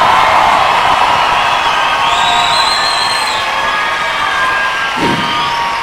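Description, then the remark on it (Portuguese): An audience at a Christian worship service applauds and cheers loudly and steadily for the name of Jesus, a dense wash of clapping mixed with shouts and high whoops that carries on without pause. “Por isso aplauda o nome de Jesus com força.”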